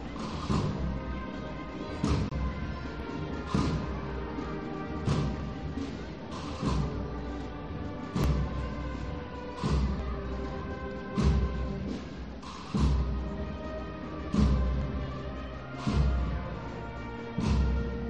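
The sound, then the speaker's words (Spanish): A marching band in a Holy Week procession of the Cristo de la Sangre plays a slow procession piece while slowly moving away, sustained brass chords over steady, heavy drum strikes that land at regular intervals, with no voices over the music. “Bueno, pues se está alejando poco a poco esa agrupación musical que suena también, pero vamos a escucharla.”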